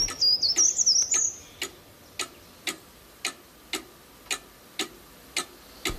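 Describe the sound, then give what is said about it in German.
A cuckoo clock ticks in a steady, even rhythm, close and clear, with a brief high warbling chirp over the first tick or so; no voices. “Zur gleichen Zeit in der Kuckucksuhr.”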